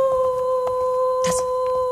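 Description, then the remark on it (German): Eerie howling holds as a long, steady, high-pitched wail with a second tone layered above it, while a brief hissing burst and faint rustles break in partway through. “Oh, dieses Geheule hört sich ja furchtbar an.”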